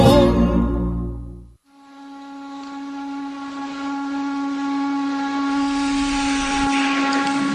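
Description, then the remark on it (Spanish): A brief burst of low rumbling gives way to a loud, sustained steam whistle from a chimney, with a steady tone and airy hiss, holding strong for several seconds with no voices. “La chimenea.”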